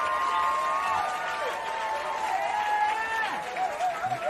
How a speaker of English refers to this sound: First of all, I got to give a round of applause to my special guest tonight, man.